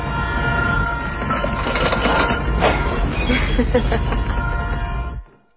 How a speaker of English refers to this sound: Freight train comes through at 5 a.m. every morning.